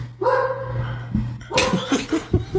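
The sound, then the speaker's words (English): A dog barks, starting with a long whining yelp and then a quick run of sharp, excited barks, with a low steady hum underneath. “Dog, bro? What's the deal? I don't know. Shit, dog!”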